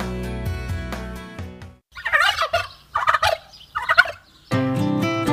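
Three rapid, warbling turkey gobbles burst out between stretches of bright, tonal music, each gobble a short rattling cluster of calls, loud and alone.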